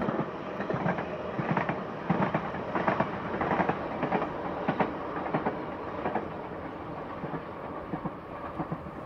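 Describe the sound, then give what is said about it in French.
A train rolls steadily along the rails, a broad continuous rumble with bright, irregular clacks of wheels over track joints pulsing through it. No voices are heard. “Et deux trains qui passent à la suite n'ont pas le même rythme.”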